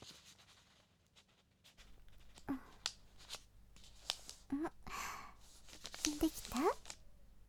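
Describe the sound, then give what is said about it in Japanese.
Paper rustles and crinkles as it is folded by hand: placed as a diamond, creased at the center and folded from the top toward the folder, with a string of crisp scraping bursts and soft creases over a quiet, steady hum, plus a few faint breaths. “まずはさっきと同じようにひし形に紙を置いて、今度は紙の中心に折り目をつけて、上の方から手前に折っていくよ。”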